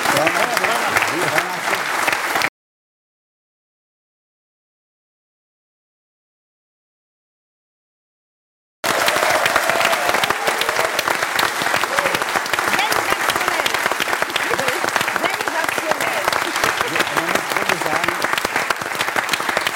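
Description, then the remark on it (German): Loud, dense audience applause for a figure skating free skate program, with steady rapid clapping, broken by a stretch of complete silence before the clapping resumes just as strongly and continues to the end. “Applaus, neben allem anderen, die Frisur war ja der Hit.”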